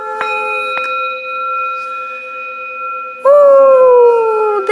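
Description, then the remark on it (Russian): A wolf cub howls in long, steady tones, then lets out a louder howl that slides downward in pitch toward the end. No one speaks. “Волчонок!”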